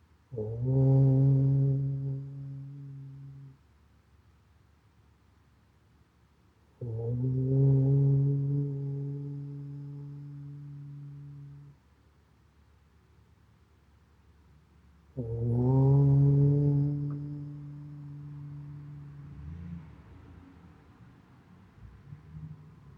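Three long, low chanted Om tones, each swelling in and sustained for several seconds with rich steady harmonics, separated by quiet pauses; a deep resonant drone with no spoken words.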